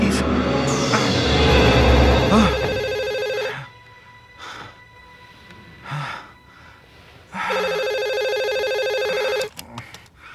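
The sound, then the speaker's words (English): A telephone rings in two long, loud bursts separated by a few seconds of near silence, with faint soft noises in the pause and no one speaking, before an answering machine picks up. “Sorry I couldn't take your call, but leave your name and telephone number at the sound of the tone, and I'll phone back post-haste.”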